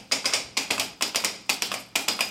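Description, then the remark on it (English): Two coconut-looking cups, the mechanical element of a silent-film sound-effects machine, make hollow clopping that imitates galloping horses: quick bursts of three or four sharp knocks repeating in a steady gallop rhythm, fairly crisp and alone with no voices. “These two sort of coconut-looking cups were the mechanical element that could create the sound of horses galloping.”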